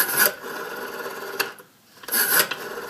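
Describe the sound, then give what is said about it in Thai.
A finger turns the rotating dial of an old rotary telephone, which whirs back in two raspy, ratcheting sweeps, separated by a short pause. The sound is steady and moderately loud, with no voices. “to call someone on an old phone you had to stick your finger in a rotating dialrotate แปลว่าหมุนนะครับ dial คือหน้าปัดที่หมุนได้ rotating dial แล้วก็หมุนนะฮะเสียงจะเป็นแบบนี้ครับ”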